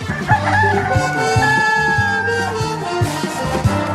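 A rooster, billed as the Bionic Chicken, crows in one long, drawn-out call, loud, layered over a steady, rhythmic music bed with a thumping low beat, in the Wake Up Crew show on News Radio WGNS.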